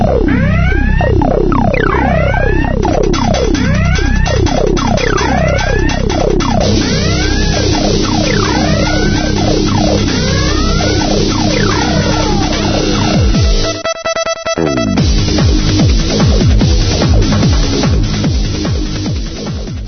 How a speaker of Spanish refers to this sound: Llegamos ya a la sección de las alertas de seguridad, ese sonido de sirenas que nos acostumbra a acompañar en cada una de las ediciones de Guardián.